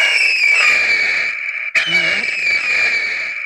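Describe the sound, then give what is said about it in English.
A shrill, high-pitched bald eagle screech sounds from a 12-volt car horn, the Bald Eagle Sounds button version, mounted facing down, held loud and steady for over a second, cut by a brief gap, then blaring on again until the end. “We've got it facing down right now because it's a pretty loud horn, and this is our Bald Eagle Sounds button version of car horn, okay?”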